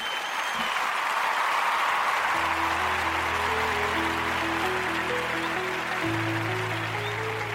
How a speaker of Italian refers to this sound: Direi con questo andiamo in applausini e poi in sigla finale.